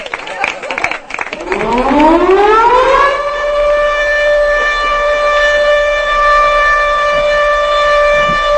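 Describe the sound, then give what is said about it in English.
A loud siren winds up from a low growl to a high, steady wail that holds for several seconds, with some muffled noise at the very start. “Is that a skunk siren?”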